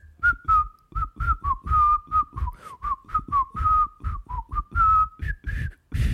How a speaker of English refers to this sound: I told you, I can't whistle very well. It's an oral treat for our listeners. A lot of air being blown into their ears.